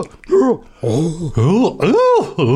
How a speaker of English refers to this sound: Gasps and cries of horror fill the room as they discover their first murder victim.